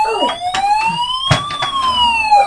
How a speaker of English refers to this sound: Oh. Where's the siren?